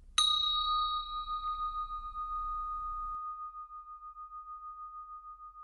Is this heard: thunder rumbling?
no